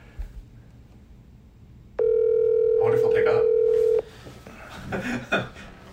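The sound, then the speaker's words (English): A phone call rings out on speaker: one steady, buzzing ringback tone lasting about two seconds, loud and flat in pitch, with faint voices murmuring before and after. “Put it up to the, when you call, put it on speaker, put it up to the phone.”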